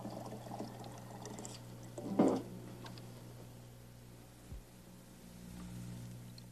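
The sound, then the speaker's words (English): A brief splash of water being poured from a pitcher into the small basin of a recirculating tabletop fountain, heard over a steady low electrical hum and faint trickling, with no one speaking. “One full pitcher to make it work just right.”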